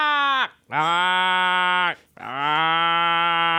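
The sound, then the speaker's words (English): A person imitates a crow with three loud, harsh, drawn-out caws, the first shorter than the other two, each sagging in pitch as it trails off, with no talking. “Okay, so this is the crow sound you effect.”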